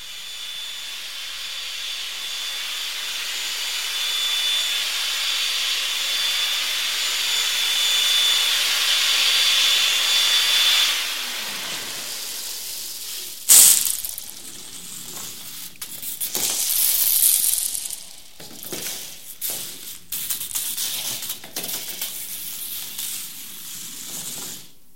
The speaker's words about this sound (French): On l'a peut-être plus reconnu, celui-là. Il y a un moteur, c'est certain. Oui, il y a un moteur. Puis c'est le bruit qu'on a. On a entendu le bruit d'un shop-vac, donc d'un aspirateur. Un aspirateur, ouais, ah, oui. D'un aspirateur qui était suspendu